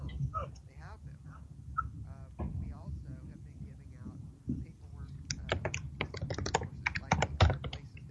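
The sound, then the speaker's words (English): Quiet keyboard typing of a message into an email, a quick run of sharp key clicks in the second half, following a stretch of low background talking that continues faintly beneath. “Typing the message is very low volume.”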